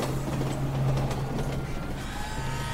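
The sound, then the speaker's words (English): An elevated L subway train headed downtown rumbles past with a steady low hum, rattling and clattering over the tracks, then a faint metallic squeal as it moves on, continuous throughout. “And there's the 1:42 p.m. L train headed downtown.”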